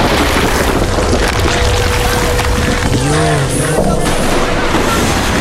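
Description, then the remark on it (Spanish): A deep, continuous earthquake rumble roars steadily for the whole stretch, dense and loud in the low end, with a thin steady tone and brief wavering cries surfacing midway. “Primero la tormenta y ahora el temblor.”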